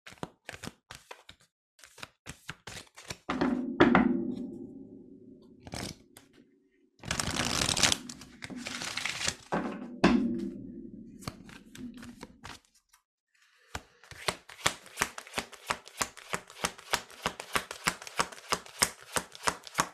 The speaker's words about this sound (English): All right, now I'm going to pull two cards for us for May. I'm going to have to shuffle it for a second, so excuse the pause.